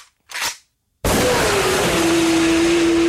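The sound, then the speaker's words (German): A BMW S1000 RR sport motorcycle engine gives a short blip, falls silent for a moment, then bursts into a loud, sustained roar whose whine climbs steadily in pitch as it revs hard. “Von 0 auf 100 in 2,9 Sekunden. Die BMW S1000 RR. Jetzt bei Ihrem BMW-Motorradhändler.”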